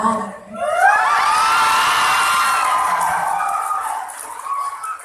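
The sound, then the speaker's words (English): Friends and bystanders cheer and whoop loudly as a teenage girl phones her boyfriend to dump him, with high excited shrieks rising over a steady crowd roar that holds for about five seconds before easing slightly. “It even spawned a new genre of YouTube video where teenage girls call up their boyfriends and dump them to applause from their friends and bystanders.”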